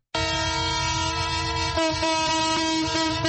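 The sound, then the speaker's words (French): A freight train's horn blares in one long, steady, loud blast as the fuel-carrying freight train from Pointe-Noire arrives at the central station in Brazzaville, its harmonic tones sustained over the low rumble of the rolling train, with no one speaking. “Ce sifflement en plein Brazzaville confirme bien l'arrivée à la gare centrale du train de marchandises qui a rallié la capitale en partance de Pointe-Noire à 510 km.”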